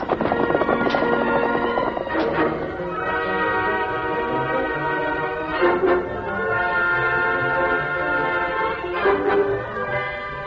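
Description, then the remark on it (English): Horses ride off with scattered hoofbeats and clip-clops, heard over a loud, sustained musical score that plays throughout. No one speaks. “Come on, get on your horses, both of you.”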